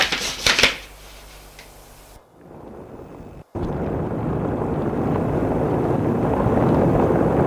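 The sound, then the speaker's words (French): Crisp crackling and rustling of paper set alight with a lighter at first, then after a brief pause a steady, loud rushing roar like flames taking hold and burning, with no voices; the burning paper is dropped into a ventilation pipe. “L'arche du papier enflammé d'un tuyau d'aération pour enfumer les copropriétaires du dessus.”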